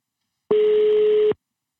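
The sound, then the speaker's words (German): A single steady telephone ringing tone sounds once for just under a second, a flat mid-pitched buzzing beep with no voices, then cuts off into silence. “Ja, es klingelt. Es klingelt immer.”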